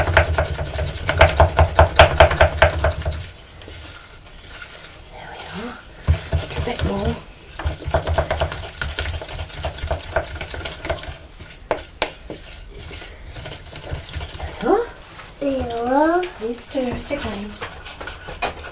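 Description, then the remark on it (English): A wooden spoon stirs a sugary mixture in a bowl, scraping and clinking in quick, steady strokes that start loud, then thin into sporadic taps as voices talk over it. “It's all sugar mixed up and then you can have another stir.”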